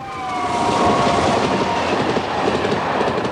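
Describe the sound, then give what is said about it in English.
A train rushes past at speed on the London to Glasgow main line, a loud, sustained roar of wheels and rushing air with faint rhythmic clatter and a high metallic squeal, steady throughout with no voices. “That could have been another train, one, but it went by so fast I couldn't really see.”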